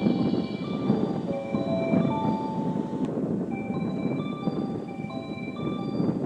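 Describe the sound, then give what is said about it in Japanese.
A train, the Kuroshio bound for Shirahama, rolls into platform 2 of a station with a heavy, steady rumble, thin metallic squeals and whines sliding on and off above it, no voices. “まもなく2番乗り場に列車が参ります。”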